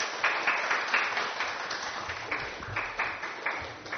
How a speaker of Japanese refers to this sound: 今朝は絶大なる愛と題してメッセージをお語りいただきます。大きな拍手を持ってお迎えいたしましょう。